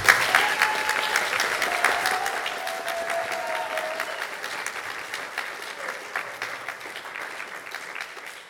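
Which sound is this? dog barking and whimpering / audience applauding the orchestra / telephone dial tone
audience applauding the orchestra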